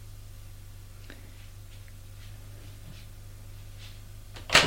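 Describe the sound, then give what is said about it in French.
A door off a dark house hallway opens: a few faint, scattered clicks and creaks over a steady low hum, then one sharp, loud latch clack right at the end. “Elle ouvre une porte.”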